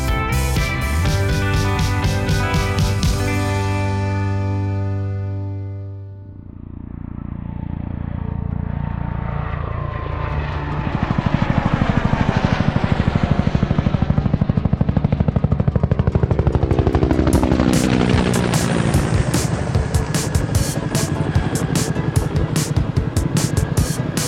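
A helicopter passes loudly: a steady turbine whine swells, then a rapid, rhythmic chop of rotor blades takes over and keeps pounding through the end, with no voices.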